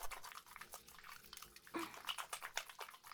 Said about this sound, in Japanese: じゃあ、洗うね。泡立てて。